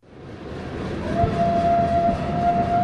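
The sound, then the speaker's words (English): A heavy coal train rumbles past through the Crow Reservation in southeastern Montana, near the site of the Battle of the Little Bighorn: a low rolling roar that builds in loudness, with a steady horn tone sounding over it partway through. No one speaks. “Not far from the site of the Battle of the Little Bighorn, a coal train rumbles through the Crow Reservation.”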